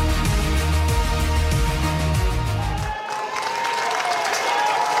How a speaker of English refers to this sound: as the crowd roars, we are mere moments away from kickoff here at Richardson Stadium. This is season 102 of Gales Game Day.